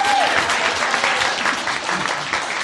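A lively round of applause fills the space, dense clapping from a crowd that stays loud and steady throughout, with a brief whistle near the start.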